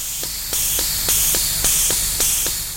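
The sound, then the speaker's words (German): A grease gun pumping grease into the joints of a large yellow front loader with a Swiss cross on its door, at the 14 Miles opal field about 25 km outside Coober Pedy, Australia. Sharp rhythmic clicks come about every quarter second over a steady hissing, spraying noise that swells in pulses. No one speaks. “Hier werden gerade die Gelenke vom Ungetüm mit Schmierfett vollpumpt.”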